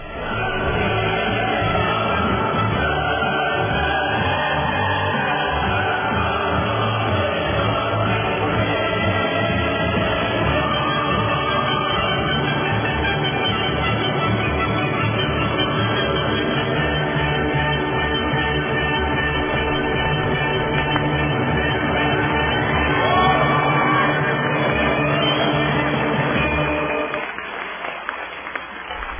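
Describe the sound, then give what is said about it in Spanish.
A choral and orchestral rendition of Ode to Joy plays loudly and steadily, with applause blended underneath, before the music fades out abruptly near the end. “El himno de la alegría y los aplausos para Celia.”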